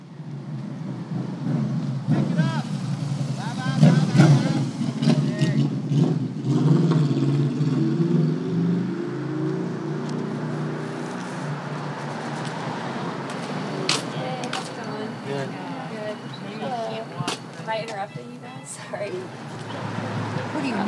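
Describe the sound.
Steady street traffic at a bus station: a continuous low engine rumble with vehicles idling and pulling away, while indistinct voices murmur in the background throughout.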